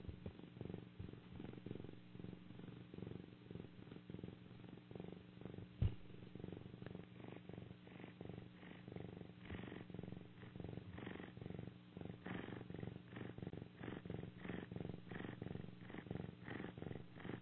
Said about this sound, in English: That's a little bit of sound vibration from my cat's purring. He's on my lap. So he came to contribute a little bit. The megahertz and the sound of a cat purring is a beautiful form of release.